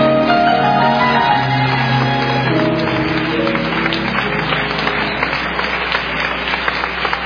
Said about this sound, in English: Come on, clap until you feel it. Give him a praise. Give him a praise.